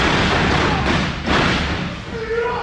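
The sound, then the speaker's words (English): Heavy thuds of bodies slamming onto a wrestling mat, a couple of dull impacts standing out over a steady wash of noise and indistinct voices. “Dudes being thrown to the ground. Slamming and smashing and all that.”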